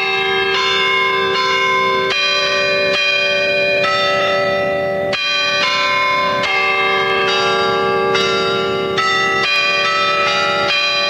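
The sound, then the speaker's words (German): The recast bells of the Garrison Church carillon in Potsdam, Germany, play a slow hymn melody, one struck note after another with long ringing overtones that blend together, loud and steady throughout with no voices. “Mit dem Geld wurden die Glocken der Garnisonkirche nachgegossen und 1991 der Stadt Potsdam übergeben.”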